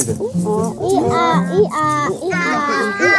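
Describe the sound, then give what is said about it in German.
Several children's voices imitate a donkey's bray, a few high, harmonic, wavering "hee-haw" calls overlapping one another, fairly loud throughout. “Wie macht denn ein Esel?”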